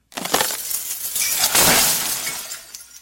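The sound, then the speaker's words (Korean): A huge chandelier falls from the high ceiling of a concert hall into the middle of the orchestra seats: a heavy crash followed by a long, loud cascade of shattering glass, bright tinkling shards scattering and clattering for about three seconds before tapering off. No voices are heard. “높은 공연장의 천장벽에서 떨어져 나온 샹들리에는 오케스트라석 한가운데를 향해 사람들이 함성 안으로 추락했다.”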